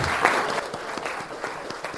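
Applause from a group at a legislative council session, given for a speaker at her seat: a dense stream of overlapping claps at steady volume, sustained throughout without any voices on top.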